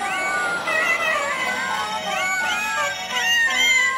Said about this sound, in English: Hey, I just want all you cat people out there to know I've never done this for dogs. I let cats sing in church, okay?